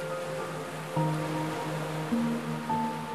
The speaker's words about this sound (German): Du genießt ihre Wärme und das Rauschen der Wellen.